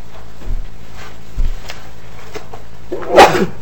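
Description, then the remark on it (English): A single sharp, loud sneeze bursts out near the end during a committee hearing, after a quiet stretch with a couple of soft low thumps in the background. “Bless you.”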